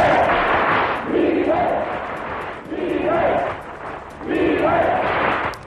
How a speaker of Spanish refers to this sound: Esos son los gritos de la manifestación que se desarrolló en Bilbao. Por primera vez, la sociedad vasca sale a la calle para gritar alto y claro el rechazo a ETA, para vencer el miedo y llamarles asesinos.